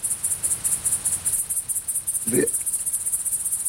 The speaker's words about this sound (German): Heute also das große grüne Heupferd. Wir haben ein Geräusch, von dem wir hoffen, dass es das große grüne Heupferd gut abbildet.